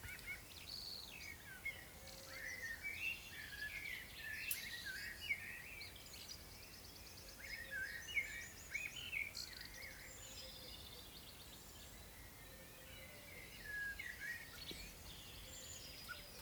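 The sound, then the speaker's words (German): Several birds chirp and twitter continuously in a lively outdoor chorus, overlapping high calls over a soft steady background hiss, with no voices. “Und ich wünsche dir für diesen heutigen Tag alles, alles Liebe und beende das jetzt mit wunderschönem Vogelgezwitscher.”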